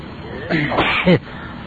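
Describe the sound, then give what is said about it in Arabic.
A single fairly loud sneeze, with a short voiced build-up before the sharp burst, then quiet again. “الحمد لله يرحمكم الله يهديكم الله ويحسن مآلكم.”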